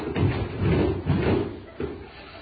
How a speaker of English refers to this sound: both in the prayer for the king and for the prince. And one very loud knock at the amen was heard by my wife and most of my children at the inside of my bed. I heard nothing myself.